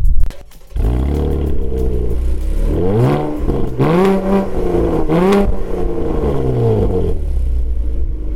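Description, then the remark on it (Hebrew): A Chevrolet Camaro's powerful engine idles on a road with a deep rumble, then revs up sharply three or four times in rising and falling sweeps, loud, with no voices. “כן, שמעתם נכון, זאת שברולט קמארו.”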